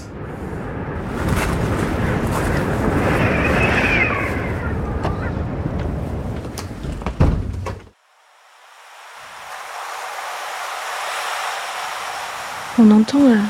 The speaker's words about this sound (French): On entend les vagues et le vent, on est juste derrière la dune, donc on est très très proche du terrain et on se laisse bercer assez facilement par ce vent et par les vagues.